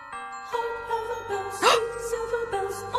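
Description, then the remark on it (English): A recorded Christmas carol plays alone, with sustained, ringing bell-like tones, a steady moderate loudness, and a brighter, louder swell midway through. “Not this version, though. I don't know what this version is.”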